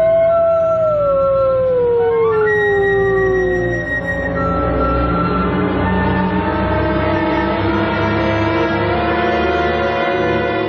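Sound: wolf family howling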